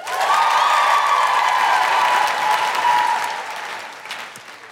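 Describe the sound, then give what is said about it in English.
Loud, sustained audience applause at a comedy show for an 11-year-old girl from the audience, with some cheering mixed in, holding steady for a few seconds before gradually tapering off. “Big round of applause for”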